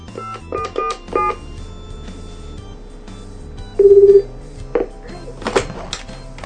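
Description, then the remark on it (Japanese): Faint phone keypad beeps, then a half-second burst of ringback tone with a few more short electronic beeps over low background noise, as a call is placed from Sabae to the factory company that makes a light-filtering eyeglass lens. No one speaks. “それをね作ってる工場の会社を教えてくれたんで、ちょっと一旦電話してみます、やってみます。”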